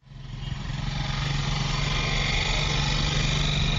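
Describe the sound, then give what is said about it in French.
A small motorcycle taxi engine runs steadily in Yaoundé as the driver takes a passenger aboard, its loud, buzzing drone rising in the first second and then holding an even, rough idle with no voices. “C'est dans cette ambiance sur le chauffeur … et … embarque un passager à bord de sa moto à Yaoundé”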